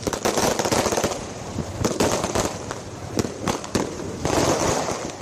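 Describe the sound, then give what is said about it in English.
Rapid bursts of fireworks crackle and pop continuously, with sharp bangs standing out over a dense, noisy outdoor wash, loud throughout. The fireworks greet the hearse carrying the coffin of Brazilian football legend Pelé early on Monday in Sao Paulo, Brazil, as it travels from the hospital to the stadium of the club Santos. “Fireworks greeted the hearse containing the coffin of the Brazilian football legend Pelé early on Monday as it made its way from the hospital in Sao Paulo, where he died, to the place where it all began, the stadium of the club Santos”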